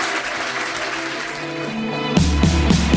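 An audience at a Welcome to Manny's event claps and applauds steadily for Kara Swisher and Ezra Klein as a dense wash of sound, and a pulsing, rhythmic low beat joins in for the final second.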